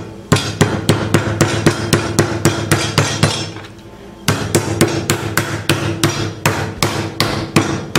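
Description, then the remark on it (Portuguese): Steady, rhythmic thuds of a mallet lightly pounding butterflied chicken breast, about two or three blows per second, with a short pause partway through before the pounding resumes. No talking. “Agora eu vou dar uma leve batida, tomando cuidado.”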